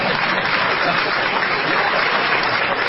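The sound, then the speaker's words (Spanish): A crowd clapping steadily, a dense continuous wash of many hands applauding at once, fairly loud, with no pauses over the few seconds. “Mire todos los simios que aplauden ahora.”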